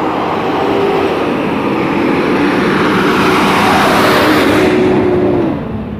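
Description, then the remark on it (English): A garbage truck rumbles past outside, a loud, steady engine drone with a faint whine that holds for several seconds before easing off at the end. No one speaks. “Good morning, garbage truck.”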